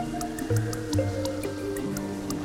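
Steady, evenly spaced drops of rain drip one after another, crisp, over a soft sustained musical backing with no talking.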